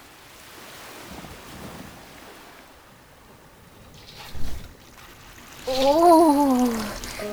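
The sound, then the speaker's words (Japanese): Ocean waves wash steadily under a constant rush of wind at sea, with a louder surge midway and a brief wavering tonal sound rising over the noise near the end. “こんな海面高かったっけ。船引っ張り出した方が楽だったかな。”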